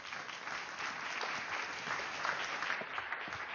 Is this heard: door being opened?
no